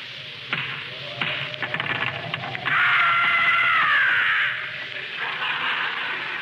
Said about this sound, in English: Knock on the door, Rochester. I'm holding the jug. Okay. I'll knock, you scaredy cat.